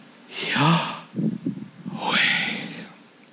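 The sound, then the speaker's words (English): Two long, deep breaths, one drawn in and one pushed out, separated by a brief low murmur, with no talking around them; a speaker breathing to show that the name Yahweh sounds like breathing. “listen, it is the sound of breathing.”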